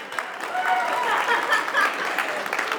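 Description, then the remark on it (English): A church audience applauding steadily on Mother's Day Sunday, clapping to God, a dense wash of many hands clapping at once, with a few faint chuckles and murmurs mixed into the crowd noise. “thanks for the clapping.”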